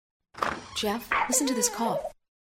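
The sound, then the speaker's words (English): A sick, feverish baby coughs in a rough, hoarse run of about four short bursts, each with a harsh noisy attack followed by a raspy voiced tail, fairly loud and without talking over it. “listen to this cough”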